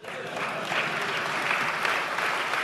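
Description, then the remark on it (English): An audience claps steadily, a dense, even wash of many hands that holds at moderate loudness for a few seconds without any voices on top. “This is where you normally clap your hands.”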